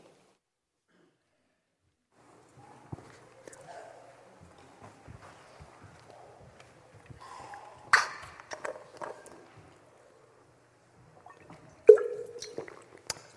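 Someone drinks water right up against the microphone, with wet sips, gulps and small liquid squishes scattered over several seconds, a sharper slurp near the end, and no talking.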